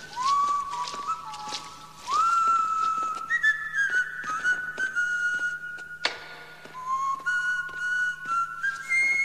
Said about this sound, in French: l'air du Toréador de Carmen, siffloté par le gardien d'un musée bruxellois, dans l'oreille cassée